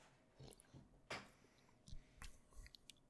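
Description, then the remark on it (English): Quiet sipping of a drink containing guava puree: a few short wet slurps and mouth clicks spaced irregularly over a few seconds, with no one talking. “Alright, let's take a little sip.”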